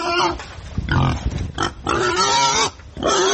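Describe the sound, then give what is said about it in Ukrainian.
Hungarian Mangalica pigs grunting and snuffling, a loud, busy run of overlapping grunts and snorts with only brief pauses, like several animals rooting around together. “Венгерська мангаліса. Є така порода.”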